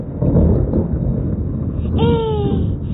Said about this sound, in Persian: صدای رعد و برق بود.